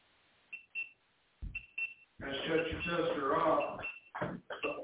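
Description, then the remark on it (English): Short electronic beeps repeat in quick pairs, high-pitched and fairly faint, continuing on through a stretch of voices and noise in the middle. “Beep, beep, beep, beep. That's all that everybody's going to hear.”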